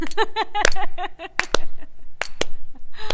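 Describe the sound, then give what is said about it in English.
A slow clap congratulating Peanut on an honor: about five sharp, crisp hand claps spaced unevenly over a few seconds. Warbling, chirpy tones run alongside them at the start, then fade. “Slow clap.”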